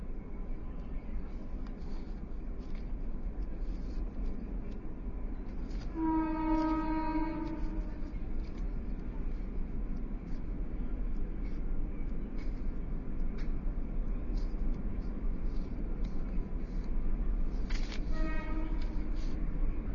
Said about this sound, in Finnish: Juna menee.